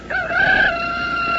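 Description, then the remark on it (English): A single loud rooster crow as a country morning wake-up call, a strained, harmonic cock-a-doodle-doo that rises sharply, holds a high, raspy note, then trails off, with no talking over it. “Well, lots of country folks still depend on this alarm clock to get them to rise and shine.”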